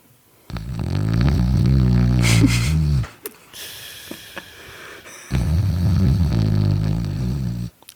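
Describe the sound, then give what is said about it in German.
A voice loudly imitates snoring: two long, rattling, drawn-out snores, each lasting a couple of seconds, separated by a brief pause with some breathy noise. “Da war einfach der Kollege, der das offenbar auch nicht auf dem Schirm hatte, wie lange wir rumsitzen, eingepennt und schnarchte derartig laut”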